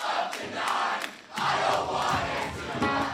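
A packed hometown crowd at a rock show in a sweaty, crowded basement in Philadelphia roars and cheers in loud, sustained surges, voices blending into a dense wall of shouting that swells, dips briefly, then rises again, energetic.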